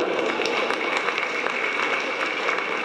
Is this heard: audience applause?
yes